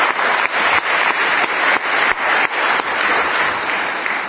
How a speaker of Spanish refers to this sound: Os pido un fuerte aplauso a los técnicos, a ITV, a los cámaras que están grabando, a todo el equipo que se ha encargado de estar todo el día aquí.